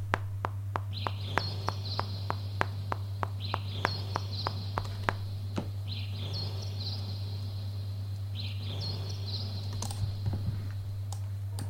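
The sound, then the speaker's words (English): Three layered tracks of synthetic bird sound effects, made in time with the music to sound like a forest, repeat in a steady looping pattern, with a metronome clicking evenly beneath them for the first half, all over a constant low electronic hum. “So the first thing I did was I created three tracks of bird effects that are in time. I'll turn the metronome on, so let's listen to just those.”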